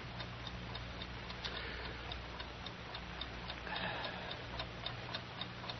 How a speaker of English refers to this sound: Darn clock. Darn stinking ornery clock. Always ticking, ticking, ticking, ticking, ticking, ticking.